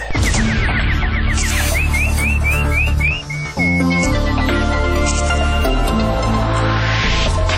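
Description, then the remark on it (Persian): A quick series of rising, bird-like chirps and warbles, introducing a news segment, repeats rhythmically over a loud, dense musical backing, then trails off as the music continues to swell. “اینک مشروع خبرها با چهچهی همکارم”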